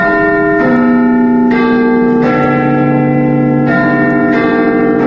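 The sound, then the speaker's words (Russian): Big Ben, the 13-ton bell inside the 61-metre clock tower of the British Parliament in London, chimes in a slow sequence of deep, resonant strikes, each ringing out and overlapping the lingering hum of the last, loud and unaccompanied by voices. “Однако первоначально так называли лишь большой 13-тонный колокол, установленный внутри башни.”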